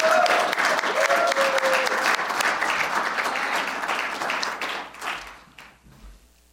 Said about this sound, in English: And as he comes forward, would you give him a rousing round of applause for all he does to serve here at Calvary?